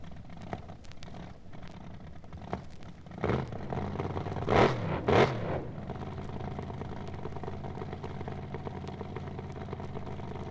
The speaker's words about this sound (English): This is an Oldsmobile, double A fuel dragster. Herb Reese, owner driver, Pomona, California, 63 Oldsmobile engine, a double A fuel machine.